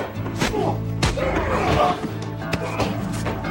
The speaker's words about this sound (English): Jinna gets slammed against the wall. Dazed, he grabs his head.